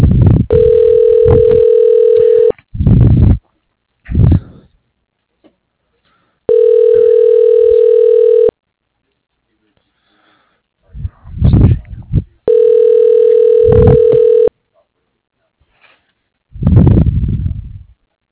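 A telephone ringback tone repeats three times while an automated phone menu transfers the call, each a steady, low-pitched hum lasting about two seconds, separated by gaps holding brief muffled bursts, all with a thin phone-line quality.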